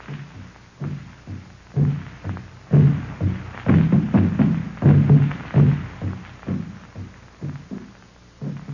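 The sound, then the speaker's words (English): African drums beat in a steady, driving rhythm of deep, booming strikes, building louder through the middle and then gradually fading away, with no voices. “African drums are talking.”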